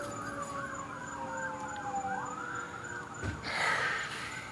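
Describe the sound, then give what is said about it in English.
An emergency vehicle siren wails in a repeating rising-and-falling pattern over steady traffic rumble, with a brief burst of passing road noise near the end. “There's the siren again.”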